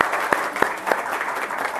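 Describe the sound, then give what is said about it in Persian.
An audience applauds steadily, a dense wash of many hands clapping with a few louder, sharper claps standing out at the start. No voices are heard. The audience applauds one of the mothers who has just shared what she learned from the session. “متشکرم، تشویقشون کنید.”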